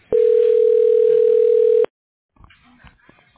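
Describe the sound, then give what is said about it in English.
A steady, loud telephone tone hums at a single pitch for nearly two seconds while a call is placed to a specialist, then cuts off abruptly, followed by a brief stretch of faint, muffled line noise. “I'm getting a specialist on the phone right now.”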